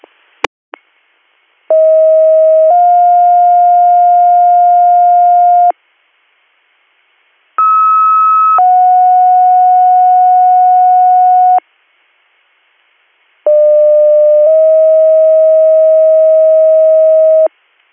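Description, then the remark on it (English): Radio dispatch alert tones, sounded before a dispatch of Western MS to Troy Township for a general illness call, play three times in a row, each set a short steady tone jumping to a longer lower one, loud and clean, with brief silences between and no voices. “Stand by for tones.”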